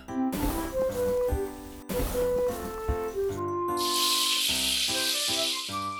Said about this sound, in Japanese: うっ、こいつ、しょんべん引っ掛けやがった。